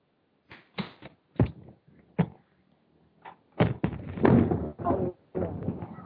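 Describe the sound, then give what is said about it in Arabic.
Explosions from shelling of the Talbiseh area in Syria by the Syrian regime: a series of heavy booms and thuds at irregular intervals, a few separate blasts at first, then a denser, louder cluster of rumbling impacts toward the end. “يعني كما تسمع معنا، كلنا نسمع الانفجارات التي هذه المناطق هي منطقة تلبيسي التي منذ صباح هذا اليوم ومنذ أكثر من 4 أيام النظام السوري يشن حملة حرب حقيقية على هذه المنطقة”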